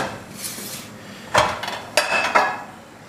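A metal frying pan is taken out and set down for cooking with a few sharp clanks and scrapes, fairly loud, with brief rattling in between and no one talking.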